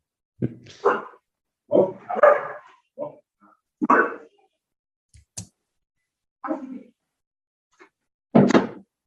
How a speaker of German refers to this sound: Okay, es ist ein Australian Shepherd. Ja. Der tut immer brav melden, das ist eh sein Job, aber gerade nicht jetzt.